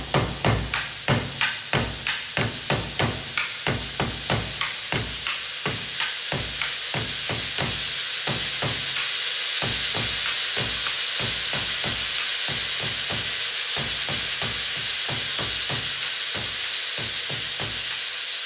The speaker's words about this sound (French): Le vent souffle fort, la pluie arrive et tombe. Le ciel est très sombre, c'est la tempête.